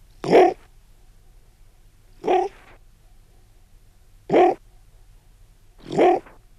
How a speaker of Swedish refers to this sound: Reven är ju ett hunddjur. Det märks på utseendet och det märks på letet. Letet säger jag, men det har ju faktiskt alla möjliga olika leten, snudd på 30 stycken. Lite beroende på tillfälle. Den morrar, den fräsar och den harklar sig.